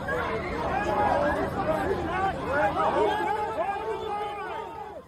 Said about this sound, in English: Crowds shouting, officers dragging away protesters.